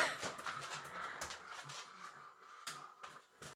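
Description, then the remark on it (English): Dogs, including a pug, play roughly with a toy, with scuffling, panting and short yips coming in irregular bursts. The commotion is fairly quiet, and no one speaks. “My dogs are playing and they're just being really noisy.”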